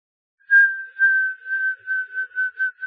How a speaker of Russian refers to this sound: Лойл сжал губы и засвистел. Свист был тихий, отчетливый, жутковатый.